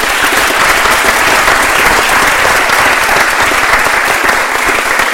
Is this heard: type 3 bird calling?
no